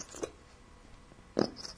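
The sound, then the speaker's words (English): A nearly empty bottle of cheap glue being squeezed gives two short, wet, sputtering squirts, a faint one followed by a louder, rude-sounding burst, with quiet pauses around them. “That's a glue bottle, not me.”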